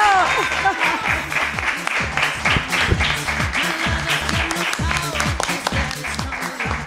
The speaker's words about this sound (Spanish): Podéis aplaudir, ¿eh? ¡Bravo!